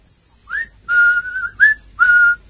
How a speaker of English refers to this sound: The other, a bull-necked youth with coarse, bloated features, was standing in front of the window with his hands in his pockets, whistling.